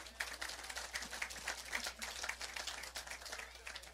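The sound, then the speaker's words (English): A crowd applauding steadily for a very generous offering that paid off an entire property, many hands clapping at once into a dense, even wash of sharp slaps that holds at a fairly constant level throughout, with no voices standing out. “Now, yeah, you could clap for that.”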